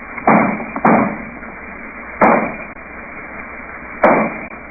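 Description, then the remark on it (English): Four loud gunshots ring out at uneven intervals, two in quick succession, then one after a pause and a last one later, each with a short fading tail. No voices are heard. “Dr. Mitter left in the direction of those shots.”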